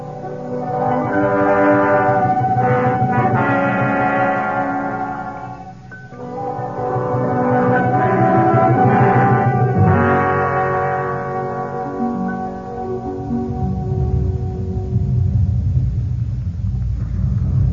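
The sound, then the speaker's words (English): A deep, continuous low rumble like thunder, heard in the midst of a blizzard, rolls on for the whole stretch, swelling in waves beneath resonant tonal hums, fairly loud, with no voices. “Oh, sounds like thunder.”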